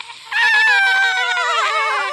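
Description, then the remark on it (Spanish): A voice imitates a whistling kettle: after a brief quiet moment, a loud, sustained high-pitched squeal holds for about two seconds, its pitch wavering and warbling toward the end. “Esta es mi imitación de una tetera.”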